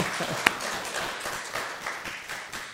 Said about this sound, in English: If you think we have good teachers in our Sunday school classes, give them a great big sound of applause with your hands. Just see if you will. Yes!